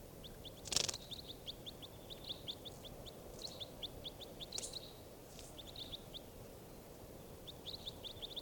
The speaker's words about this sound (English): Starting bird 586.